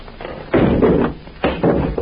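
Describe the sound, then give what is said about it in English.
A heavy, unlocked door is pushed open into an unlit room, making two loud, rough bursts of scraping and thudding about a second apart, with no voices. “Now listen, I'm going to shut the door open, shine my light in.”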